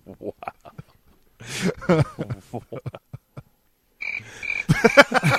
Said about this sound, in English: No one's really interested. This is embarrassing. Wow. Do we have the crickets sounder?